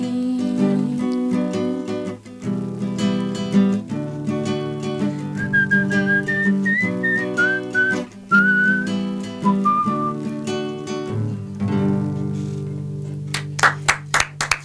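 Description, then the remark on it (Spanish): A clear whistled melody rises and falls over a full band backing, sliding between sustained high notes for several seconds in the middle of the song before the music carries on without it. “Decir que banco mucho los silbidos. Sí, o sea, me encanta total, silbar, sí, y en las canciones no aparece mucho.”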